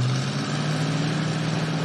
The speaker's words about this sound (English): I said stop the goddamn car.